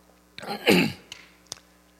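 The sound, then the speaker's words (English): A raspy throat-clearing cough, one harsh gravelly burst lasting about half a second, followed by a couple of small clicks and then quiet. No one speaks. “I had to cough.”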